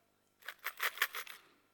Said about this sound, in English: Those are coins. So it's money.